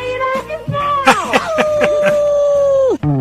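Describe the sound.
A man calling in to a radio show howls like a dog, a long wavering, sustained cry with yelping breaks near the start, loud, ending abruptly after about three seconds.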